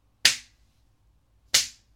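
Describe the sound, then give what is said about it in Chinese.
Two loud, crisp slaps as a kneeling person hits their own face hard, about a second apart, with nothing else around them. Each one is a sharp, bright crack that fades quickly, and no voices are heard. “不如这样吧，你呀，自己扇自己的耳光，用力的扇，一边扇一边说自己是母狗，不应该骚叫，应该狗叫。”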